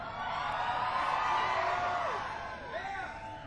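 A dense crowd screams and cheers continuously while one voice stands out above the din with a long, excited yell that swoops in pitch, followed by a shorter whooping cry.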